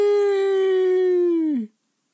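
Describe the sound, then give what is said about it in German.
A Styrian rooster on a farm in Styria gives one long, loud morning crow, holding a steady bright tone for over a second before the pitch drops away at the end. Silence follows. “Die Hühner bewunderten sein schönes Krähen und antworteten mit einem zufriedenen Gock.”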